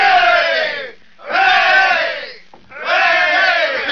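A railroad construction crew of men gives three loud cheers for their boss in quick succession, each a sustained shout of many voices with brief pauses between them.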